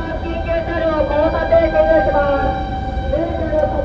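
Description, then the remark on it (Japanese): A fire engine's wailing siren rises and falls over steady low road rumble, sounding fairly loud as it passes by. “ちょっと消防車が来ました。”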